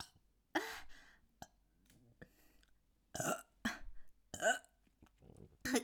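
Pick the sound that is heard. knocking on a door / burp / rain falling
burp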